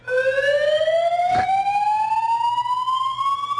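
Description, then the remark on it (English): A loud siren-like alarm wails alone, its harmonic-rich tone sweeping slowly and steadily upward in pitch for several seconds, broken once by a brief noisy burst partway through. “When I first heard that, I actually thought it was a fire alarm.”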